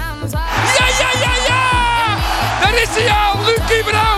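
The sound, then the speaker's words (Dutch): A loud football stadium crowd in the Abelense Stadion cheers and whoops at a Cambuur match, many overlapping voices shouting over a steady, thumping beat that pulses roughly twice a second throughout. “In het publiek hier al juichen in het Abelense Stadion.”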